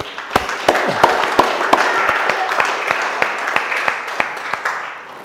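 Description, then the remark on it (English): An audience at a church service applauds the leaders steadily for several seconds, a dense wash of many hands clapping with a few sharper, louder claps standing out. “Can we just give a round of applause, I think, to the leaders as well.”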